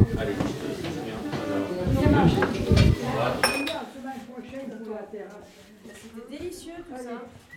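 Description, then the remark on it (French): Two people wash dishes together, with plates and cutlery clinking and clattering irregularly, busiest in the first half, while people talk over the noise. “On va faire la vaisselle à deux.”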